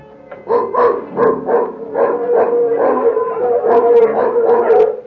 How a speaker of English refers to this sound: As the mongrel dogs curse their nasty little throats. Do they give us away? They may wake people up.